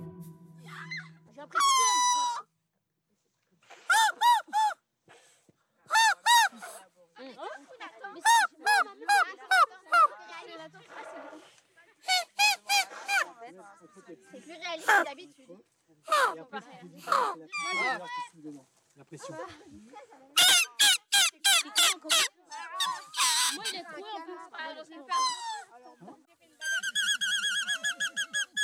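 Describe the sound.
A whistle made with blades of grass is blown in a long run of shrill, reedy squeals and squawks, short bursts with brief pauses, loosely imitating bird calls, ending in a rapid buzzing trill.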